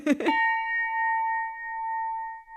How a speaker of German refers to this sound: Einen Wow-Effekt löst die Glocke also nicht aus. Sprich, auch wenn die Messwerte im Labor zeigen, dass man die gewünschten Frequenzen ganz gut erwischt hat, im Hörtest kann die sogenannte Jazzglocke nicht so recht überzeugen.